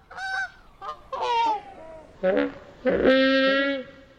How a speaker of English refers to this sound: Take Jurassic Park. To create these mournful calls from the Brachiosaurus, sound designer Gary Rydstrom slowed down the honks of geese.